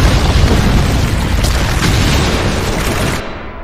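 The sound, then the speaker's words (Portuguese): A column collapses into rubble with a loud, sustained roar of crashing debris that rumbles for a few seconds, then drops off abruptly. No voices are heard. “Pelos cosmos, a coluna cedeu. A criminosa está presa embaixo dos escombros.”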